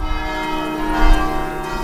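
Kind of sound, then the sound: signal or alarm, church bells ringing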